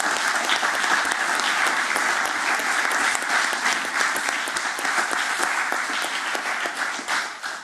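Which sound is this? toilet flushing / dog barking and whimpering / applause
applause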